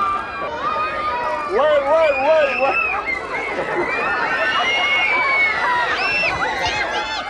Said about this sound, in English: Screaming children running from bees. Oh, good times. President Obama back in 2015.